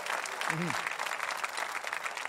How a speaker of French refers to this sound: Voulez-vous crier quelque chose et l'applaudir? J'ai reçu Jésus, je crois en son nom.